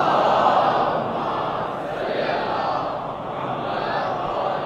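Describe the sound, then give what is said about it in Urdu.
A large crowd chants slogans and a durood (blessing on the Prophet Muhammad) together in unison, a dense, steady wall of many voices holding loud and even throughout with only slight swells. “ایک مرتبہ درود بھیجیے محبت والے محمد.”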